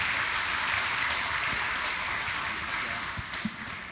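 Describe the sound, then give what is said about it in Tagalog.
A church audience applauds to welcome a bishop, a steady, dense wash of many hands clapping together at moderate loudness throughout, with a few sharper individual claps standing out near the end. “Palakpak po po, Panginoon.”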